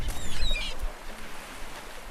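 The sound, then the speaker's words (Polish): A few short, high seagull cries sound near the start over a low rumble of wind and water, then fade, leaving only the soft seaside background. “Mewy słychać.”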